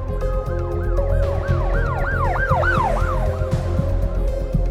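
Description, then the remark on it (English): An ambulance siren wails loudly as the ambulance arrives quickly, in rapid, repeating rise-and-fall sweeps that quicken slightly, with a low engine rumble underneath and no one speaking. “An ambulance arrived quickly, pulling Lyman out of the car and rushing him to St. Mary's Mercy Hospital.”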